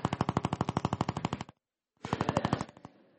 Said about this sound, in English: Okay, I'm not sure what that is. Another go? All right. Somebody's using one of these road drills, I think, somewhere.